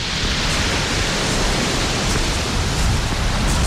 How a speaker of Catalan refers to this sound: Ja som arran de mar, on som? Estem a una platja top secret, perquè no s'ompli això de pescadors tafaners.